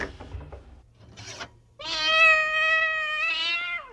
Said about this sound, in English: Now, where's that cat? Here, kitty, kitty. Come here, Oliver. Time to eat.